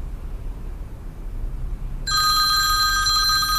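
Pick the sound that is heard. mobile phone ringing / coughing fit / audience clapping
mobile phone ringing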